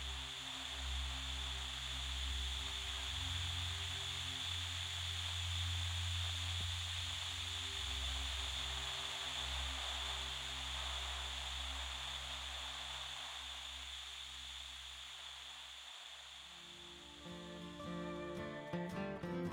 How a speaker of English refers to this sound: I turned on the TV, and a chill ran up my spine. Static. Just static.